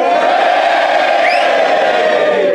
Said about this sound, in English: Okay, right, audience. If you think Richard acted morally, cheer now. If you think he acted immorally, cheer now.